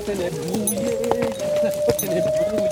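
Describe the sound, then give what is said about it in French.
Horse hooves clip-clop on a trail in the Vercors, on a ride from Engins to Léoncelle, in irregular knocks, a few sharp strikes a second, heard over a steady droning tone and faint background voices. “vous emmène d'Engin à Léoncelle pour un voyage chargé d'histoire avec les chevaux du Vercors.”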